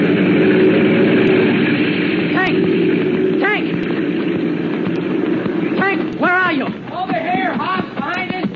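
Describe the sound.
A plane engine roars steadily and loudly throughout, a constant drone, while voices shout over the engine and gunfire, growing more frequent in the final seconds.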